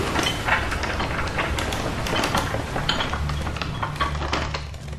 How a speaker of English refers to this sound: Oh dear, I... I'll close the door manually,